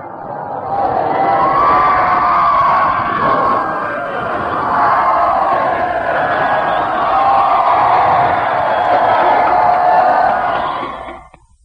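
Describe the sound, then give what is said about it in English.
A large crowd at Piccadilly Circus in London cheers and shouts for about eleven seconds, a loud, dense, sustained roar of many voices with whoops rising through it, fading quickly at the end. “And I'm just going to raise my hand and see if they weren't over there in the United States, all the way from Piccadilly here in London, at 2:50, very nearly 2:50 our time, won't give you a cheer.”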